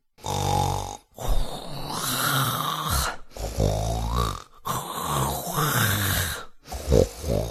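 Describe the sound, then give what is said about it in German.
A voice imitates an old man giving a low, rough growl, then falling back asleep with a series of long, throaty snores, several drawn-out breaths in a steady rhythm with short pauses between them, fairly loud. “Da knurrte er noch ein wenig und dann schlief er wieder ein und schnarchte so brav wie vorher.”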